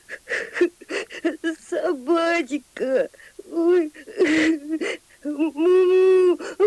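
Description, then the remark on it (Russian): A voice acts out a calf's bitter sobbing and whimpering, with wavering, quivering cries and gasping breaths repeating in uneven bursts, fairly loud, mixed with a few spoken words. “Вернувшись домой, волк увидел, что теленок уткнулся носом в книгу и горько плачет.”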